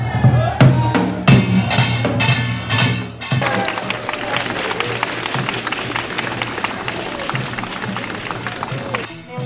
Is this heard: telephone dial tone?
no